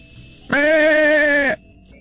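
A single loud goat bleat, about a second long, steady and nasal with a slight waver, rising suddenly out of quiet background hiss and cutting off just as abruptly.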